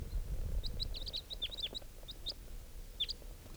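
bird, bird chirping

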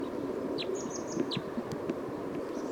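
bird, bird song

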